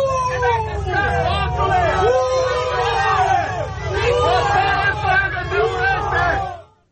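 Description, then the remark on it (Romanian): Dozens of protesters at a prison gate shout and boo continuously, many overlapping voices rising and falling in rough waves of yelling, loud throughout before cutting off at the end. “Zeci de protestatari îl așteptau la poarta penitenciarului pe Dragnea, unde l-au huiduit.”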